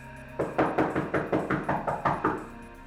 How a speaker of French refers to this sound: À travers les cris, on entendit quelqu'un frapper à la porte.